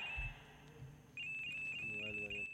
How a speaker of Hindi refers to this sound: Hello, mobile आ गया है भाई, देखिए अभी हम अपने फाइल में लगे हुए हैं, मोबाइल को बंद करो, बाद में बात करना।